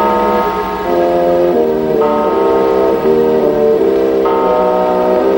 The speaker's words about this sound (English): Cratchit looks at the clock. Later, as the clock chimes 7, Scrooge checks it against his watch.